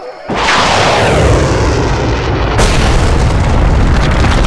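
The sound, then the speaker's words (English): A sudden, loud explosion of a rocket-propelled grenade, fired from the shoulder by a Shan militiaman and striking near the top of a rock outcrop, erupts into a sustained roaring rumble, with a second sharp blast hitting partway through; powerful, with no voices. “A Shan militiaman on the ground shouldered an RPG.”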